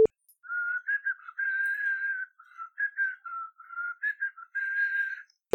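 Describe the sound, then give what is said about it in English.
A chair squeaking: a run of high, whistle-like squeals, some short and clipped, others drawn out for about a second, wavering slightly in pitch with brief gaps between them and no talking. “This is my chair. Sir squeaks a lot.”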